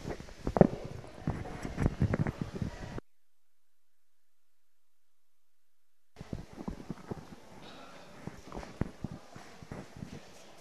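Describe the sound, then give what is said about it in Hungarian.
A horse walks with steady clip-clopping hooves in an even four-beat rhythm, moderately loud, broken by a few seconds of silence before the hoofbeats resume over faint outdoor noise. “Tehát amikor a ló csak sétál, ezt a négyes ritmust hallani, ugye? Egy, két, három, négy, mennek a paták.”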